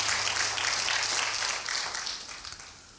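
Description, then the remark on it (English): An audience claps their hands together in a dense, sustained burst of applause that tapers off toward the end, with no voices speaking over it. “Clap your hands if you're ready to receive the word of the Lord.”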